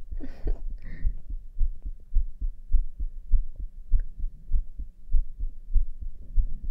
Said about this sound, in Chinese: 心跳可以听得很清楚哦，舒服哦。